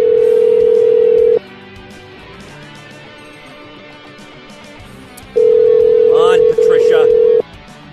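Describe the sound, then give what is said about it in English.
A telephone ringback tone on an outgoing call to a mother's home phone: a loud, steady electronic burr sounds twice, with a long gap between, and a faint voice murmurs briefly during the second ring. “Waddle your ass to the handset there.”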